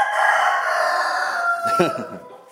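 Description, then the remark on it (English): A rooster crows once in a long, drawn-out call, loud, with a strained, harmonic-rich tone that wavers and breaks near the end before fading. “Hello, Mr. Rooster.”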